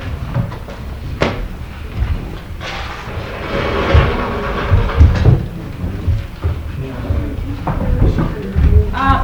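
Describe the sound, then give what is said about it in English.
A projector screen being pulled down, with a sharp clack early on followed by a sustained rattling, rolling mechanical rumble, fairly loud, with no talking. “Let's see if we can get our screen down. Yeah, just pull it.”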